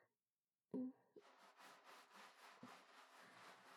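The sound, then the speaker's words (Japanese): A soft bump, then steady, rhythmic rubbing of lathered soap against skin as the soap is spread on while kneading breasts, used as a sponge, with repeated wet, swishing strokes continuing to the end. No one speaks. “胸をもみながら塗りつけて”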